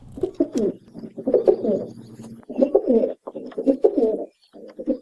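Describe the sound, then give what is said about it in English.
Soft, throaty cooing of a domestic rock pigeon, from a Macaulay Library recording at the Cornell Laboratory of Ornithology, in repeated rolling bursts, several calls in close succession with brief pauses between them, clear with no talking. “we are spotlighting the domestic rock pigeon, which was introduced to Hawaii more than 200 years ago”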